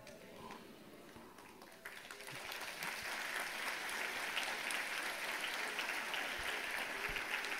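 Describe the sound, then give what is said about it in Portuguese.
An audience breaks into applause, scattered claps at first that swell after a couple of seconds into steady, dense clapping that holds to the end. “Quando alguns começaram a aplaudir, alguns estavam dormindo, começaram a aplaudir.”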